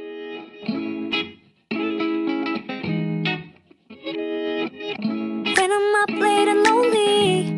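Instrumental pop song intro with effected, slightly distorted guitar chords in choppy bursts and brief pauses, then swelling into a brighter, fuller passage with a sustained melody line, loud and close.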